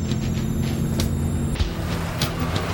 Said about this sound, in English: A pickup truck pulls up in the parking lot.